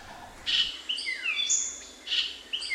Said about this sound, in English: I remember standing there in the Belize forest, the rainforest down there, just listening to what I might hear, and then this bird comes along. And it's like, oh my God, that can really be a bird and sound so musical.